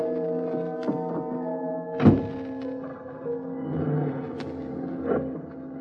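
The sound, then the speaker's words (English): A single solid car door thunk lands over a steady engine hum as a man gets into his car, and the motor keeps running with a faint rise as the car pulls away from the curb. No one speaks. “I got into my car.”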